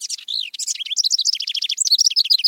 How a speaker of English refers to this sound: The house wren is a remarkable songbird, successful across two continents, highly adaptable, and a steady and songful presence in our lives.